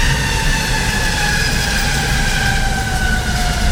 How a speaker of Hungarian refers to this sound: Bal felül elment egy villamos, most elindulunk.